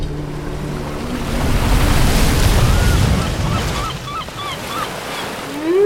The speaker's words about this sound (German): Große Wellen überfluteten den Sumpf und schwappten vom Meer bis zum Wasserloch.